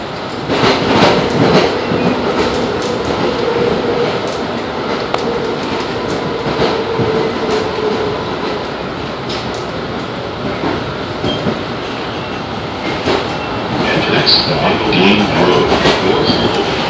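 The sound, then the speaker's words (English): Steady rumble of a light rail train headed for North Station, recorded from inside the car, with continuous rolling wheel noise, faint rattles and occasional clicks from the track, growing slightly louder near the end. “The destination of this train is North Station.”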